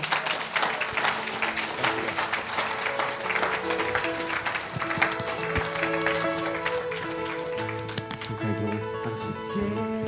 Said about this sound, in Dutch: Oké, okay, geef nog een applaus en dan...